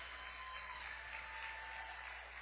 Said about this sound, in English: Now, good job by the young ladies. They get a good round of applause.